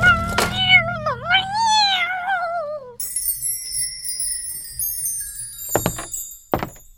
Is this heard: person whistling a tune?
no